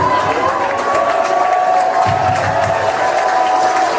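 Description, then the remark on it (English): A crowd at a singer's event cheers and shouts continuously for four seconds, a dense, steady roar of many voices with a few higher whoops and sustained tones rising above the noise. “Why are they cheering?”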